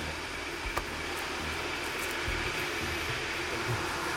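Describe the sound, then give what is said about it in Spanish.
A steady, dense mechanical roar of ventilation fans and feeding machinery in a turkey farm hangar, with low rumbling and a few faint clanks and ticks on top, and no voices. “La ventilación y el ruido del sistema de alimentación son ensordecedores.”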